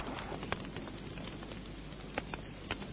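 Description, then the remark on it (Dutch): A steady roaring hiss with sharp pops and snaps bursting out every so often from a big fire being fed with hay and rubbish, sparks flying, with no one talking. “Man, dat brandt verschrikkelijk. De spankers vliegen me om mijn oren.”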